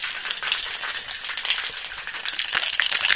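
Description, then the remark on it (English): Ice rattles hard inside a cocktail shaker, shaken to emulsify a drink with egg white and lemon juice: a dense, continuous clatter of bright clinks and knocks with steady rhythmic surges, loud and unbroken for the whole stretch, with no voices. “So what we're really trying to do is I'm shaking like crazy just to get all this to blend together. That's all you hear, right?”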